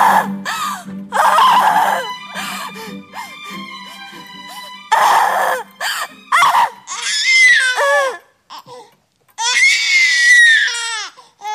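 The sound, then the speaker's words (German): A newborn baby boy cries in loud bursts just after birth, the wails rising and falling in pitch with short breaths between them, while faint sustained tones linger in the background. “Holen Sie den Arzt. Das Baby kommt.”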